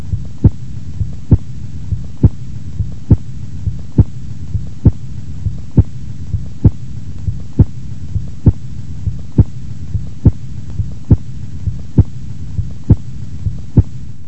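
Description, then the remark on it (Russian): Stethoscope recording of heart sounds over the aorta of a patient with hypertensive disease, with a steady, regular beat of roughly one per second and a sharp, loud accent on each beat (a loud second heart tone) over a low, constant rumbling hum. No talking. “Прослушайте тоны сердца у больного с гипертонической болезнью.”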